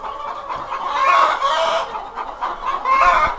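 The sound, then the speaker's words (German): Many laying hens cluck and chatter continuously in a henhouse while laying eggs in the nests, a dense overlapping murmur of soft calls with occasional louder squawks rising above it, fairly loud, with no talking. “Jetzt sind wir bei uns im Hühnerstall.”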